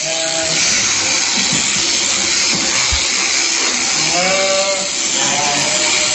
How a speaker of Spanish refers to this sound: Pues poco más de un minuto, ¿eh? Es lo que tarda un esquilador profesional en esquilar una oveja. La verdad es que verlos trabajar es casi hipnótico, ¿eh? La rapidez y la facilidad con que manejan a cada animal es, de verdad, asombroso.